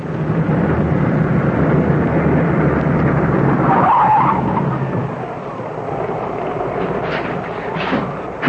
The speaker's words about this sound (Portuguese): deixa o carro aí mesmo, viu? Vamos entrar, senão vamos ficar encharcadas.